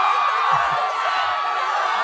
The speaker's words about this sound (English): I don't know, do we get a crowd screaming sound?